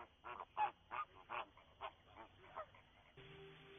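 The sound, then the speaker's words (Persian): A flock of migratory waterbirds at the Kanibrazan wetland, part of the Lake Urmia ecosystem and a summering place for large flocks including flamingos, calls in a rapid series of honking cries, about eight bursts in quick succession, fairly loud, with a steady low tone entering near the end. “این تالاب محل تابستان گذرانی دستجات بزرگ پرندگان مهاجر از جمله فلامینگو یا مرغ آتشین است.”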